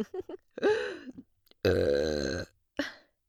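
Two long, loud, drawn-out burps, the second deeper and sustained, followed by a short burp at the end. There is no speech.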